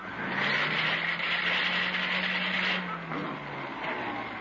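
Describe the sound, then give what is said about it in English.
A repaired vacuum cleaner with slightly worn gears, switched on to test it, runs with a steady, loud mechanical drone and rushing hiss, a low hum underneath, its tone shifting slightly near the end. “I got that chug, chug, chug out of it, didn't I? Yeah, but you left in the squeak and the broomp and the clickety.”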